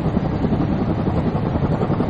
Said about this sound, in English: Here we are again. The chopper's very close this time.